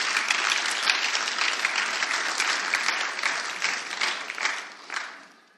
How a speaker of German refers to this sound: Da dürfen wir gerne nochmal für klatschen, für die 5 Leute.